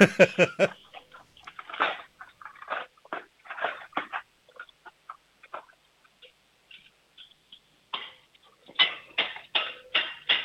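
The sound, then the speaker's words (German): A loud clatter as a handful of cutlery is dropped on purpose into a kitchen drawer to make noise: a dense burst of metallic clinks, then scattered rattles and taps, and a final flurry of jangling near the end. “Und jetzt hätte ich gern, dass du in die Küche läufst, die Bestecklade aufmachst, alles Besteck in die Hand nimmst und dann so richtig schön laut reinfallen lässt, das richtig Lärm macht.”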